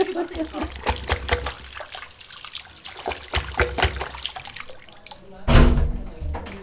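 Tap water runs and splashes in an uneven, sloshing trickle while a bathroom is being cleaned, with intermittent rinsing bursts and a louder gush of water near the end.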